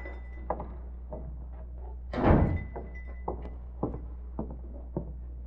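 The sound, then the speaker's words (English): A front door is opened and shut as someone comes in, with one heavy thud midway through, surrounded by light clicks and shuffling steps over a steady low hum. No one speaks. “Uh-oh, somebody coming in the front door.”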